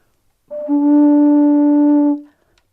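Pipes sound one steady, low, reedy tone rich in overtones. It swells in quickly, holds evenly and loudly for under two seconds, then stops, with no talking.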